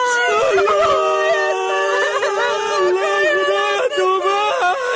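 child crying

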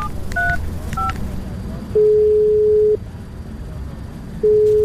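telephone number being dialed

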